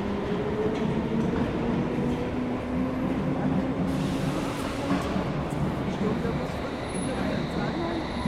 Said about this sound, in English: Edgware Road train, platform 2 via High Street, Kensington, Notting Hill Gate, Bayswater, Paddington and Edgware Road. Join the train, please. This train is now ready to depart. Stand clear. Mind the doors, please.